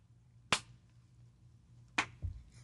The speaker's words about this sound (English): That was the worst locker room clap of all time, but thank you, guys. It was very half-hearted.